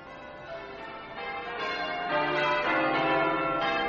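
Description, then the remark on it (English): The church bells of Fenchurch St. Paul peal continuously, several bells overlapping in a rich, ringing cascade of tones that grows slightly louder and fuller as it goes on, with no voices. “The voice at the bells of Fenchurch St. Paul.”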